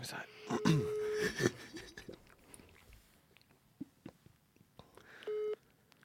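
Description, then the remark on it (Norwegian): Phone dialing a mobile number: a sustained tone lasting about half a second early on, then scattered clicks and handling noises, and a short, buzzy ringing beep near the end. “Kan du ringe han da?”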